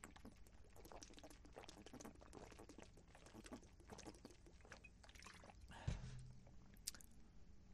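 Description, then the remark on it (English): Someone drinks water outdoors on a day when it is 40 below, with a steady run of wet, slurping liquid sounds and gulps, a soft thump near the end, and no talking. “Man, it's hard to drink a lot of water when it's 40 below outside.”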